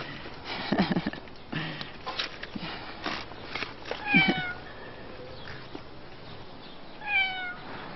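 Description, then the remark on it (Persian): A hungry cat meows a few times while being fed kebab, short rising cries spaced apart, over a low steady background hum with occasional shuffling sounds. “آخه گربه ها رو یه ذره بهش قضا بدیم.”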